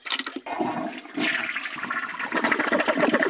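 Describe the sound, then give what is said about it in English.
A toilet flushes, a loud rushing gurgle of water that starts abruptly, briefly dips, then surges again and swirls steadily without any voices. “In the recession, it got flushed right down the toilet.”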